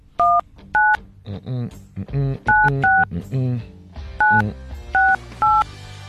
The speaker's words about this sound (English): It's not me, it's the phone. As the phone's that sound. The actual sound that the phone makes.